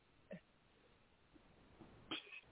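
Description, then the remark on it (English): A senior male cat gives two small, sharp sneezes, a faint one followed about two seconds later by a louder, slightly longer one, in otherwise quiet surroundings with no talking. “my senior cat, Scott, walked in and scared me about bumping into my back, and then he sneezed”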